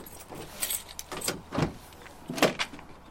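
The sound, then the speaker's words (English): Suitcases are rolled up a driveway to a truck, clattering and bumping with several sharp knocks and jangles spaced irregularly over a few seconds, no voices. “He rolls the suitcases up the driveway to the truck he just sold to a friend.”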